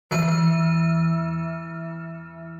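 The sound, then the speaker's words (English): A single loud bell strike rings out, its rich metallic tone sustaining and slowly fading over a couple of seconds, with no voices present. “Let's get to the bell.”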